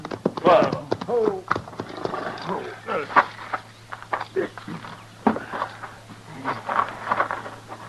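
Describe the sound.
Horses' hooves clip-clop in an irregular patter, then slow and come to a stop as the riders halt to rest their horses, with snorts, movement and faint voices mixed in.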